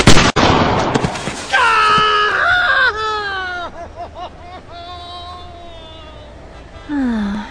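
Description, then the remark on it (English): A single loud gunshot blast cracks out at the start, shooting off a man's toe, followed by a long, wavering, high-pitched wail of pain that rises and falls for several seconds. “You shot my toe off!”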